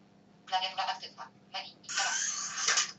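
A short electronic voice prompt from a slider phone running the Advanced Cell Slide Helper program announces that the keyboard is active. Then a steady, breathy pneumatic hiss lasts about a second as the phone's keyboard slides open, fairly loud over a faint low hum.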